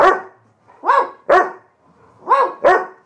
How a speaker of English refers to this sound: It's so silly, that bark. It's very high.